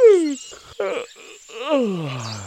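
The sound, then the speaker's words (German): A loud, drawn-out yawn voiced by a person imitating a hedgehog named Waldemar as it rolls itself up again in its pile of leaves, with sliding, groaning tones that fall in pitch across a couple of stretched breaths, without other talk. “Endlich war wieder Ruhe und der Igel Waldemar rollte sich laut gähnend wieder in seinem Blätterhaufen zusammen.”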